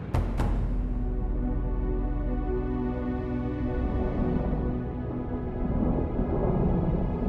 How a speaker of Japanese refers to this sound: 雷が怖くて外出れねえぜ。